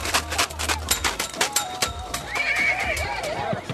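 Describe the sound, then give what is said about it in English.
An Arabian horse whinnies loudly at a horse show competition in a rural area outside Nazareth, its shrill wavering neigh rising and falling, after a stretch of clattering hoof-like thumps and scattered crowd noise as it is led into the corral by a trainer on foot and the crowd makes noise to agitate it. “As each horse is led into the corral by a trainer on foot, people in the crowd make noise to get the horse agitated.”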